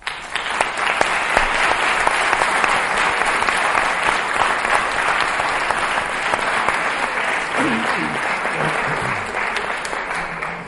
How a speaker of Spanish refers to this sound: La Asociación de Familiares Amigos de Alzheimer de Cartagena y Comarca, a los que quería felicitar de una forma muy especial y con el permiso de todos los presentes, creo que le deberíamos dar un último aplauso.